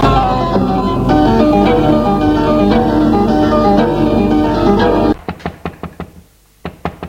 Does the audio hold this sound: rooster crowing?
no